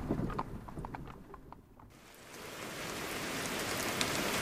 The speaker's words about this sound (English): It's raining.